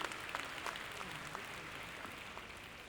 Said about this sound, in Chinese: 真的，给自己一个掌声，你实在太幸运了。